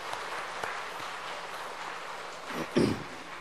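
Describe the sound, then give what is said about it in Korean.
An audience applauds steadily for the mission teams, a dense crackle of many hands clapping that holds at an even level before a brief louder swell near the end. “선교팀들을 위해서 큰 박수 한번 부탁합니다.”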